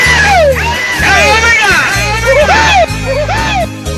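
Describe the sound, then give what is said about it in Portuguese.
A group of voices shouts and whoops together loudly and continuously, rising and falling cries overlapping one another in a lively, rowdy burst. “Então dá fim de um grito aí pra tirar uma loiada!”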